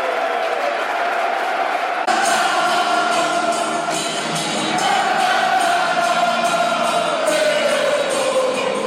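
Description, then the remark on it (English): A large football crowd in warm weather chants and sings steadily at a loud, even level, a dense roar of many voices with a sustained tonal swell rising midway through. “Crowd in good voice.”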